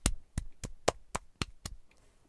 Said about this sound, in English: Okay. That's, me slapping my tits. So, yeah. You can really, oh my god. You can actually, hear it.